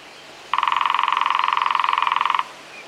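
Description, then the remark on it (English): A lesser spotted woodpecker drums in one steady, even burst of rapid taps lasting about two seconds, with a slightly buzzy tone and no voices over it. “Its drumming is much quieter and less vigorous than that of the great spotted woodpecker.”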